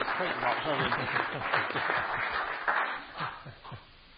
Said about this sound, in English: I think we'll leave it there, shall we? Give them all a big clap.